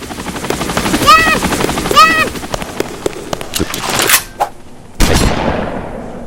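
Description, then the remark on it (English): A loud combat helicopter boss in a video game churns steadily while rapid bursts of machine-gun fire crackle over it, with two swooping electronic whooshes and a few sharp blasts fading out near the end. “Mass combat helicopter.”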